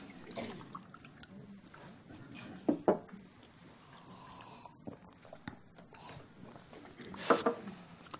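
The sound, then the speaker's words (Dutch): Water is poured in The Hague, a soft, uneven trickle with a couple of brief louder splashes as it fills the glass. “Even een beetje water erbij.”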